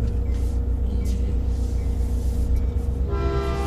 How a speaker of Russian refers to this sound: Ой, мама родная. Друзья, как они гнусно гудят, эти электрички.